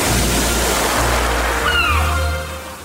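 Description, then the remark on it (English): Waves of the warm Aegean Sea around the Greek islands wash in a steady rushing roar that fades near the end, with a couple of faint high chirping tones briefly rising above it partway through. “I'm having a bit of a rest today, swimming in the warm Aegean Sea around the Greek islands.”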